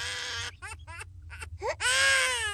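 A baby cries loudly: a long wail, then several short choppy sobs, then another sustained, straining cry. No talking, just a low rumble underneath.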